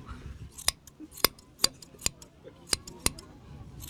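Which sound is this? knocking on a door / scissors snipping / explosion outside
scissors snipping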